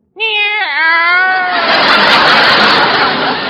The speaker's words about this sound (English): Meow!